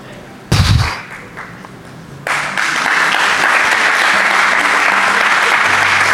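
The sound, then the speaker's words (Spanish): A sharp thump, then a crowd breaks into sustained, dense applause that swells and holds steady, filling the room with continuous clapping until the end. “Te pica, aplaudiste porque te pica.”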